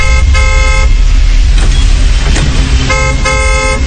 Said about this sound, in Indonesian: Aku mulai membunyikan klakson.